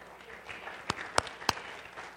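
Scattered audience applause: a soft wash of crowd noise with three sharp, evenly spaced handclaps standing out, all fairly quiet and with no one speaking.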